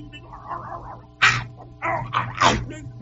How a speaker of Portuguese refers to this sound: Então ele tá pedindo aqui um corvo doido com um cachorro correndo atrás da Kombi pra esposa dele.